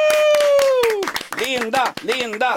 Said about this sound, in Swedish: En applåd för Vilda Webben under hela vårsäsongen.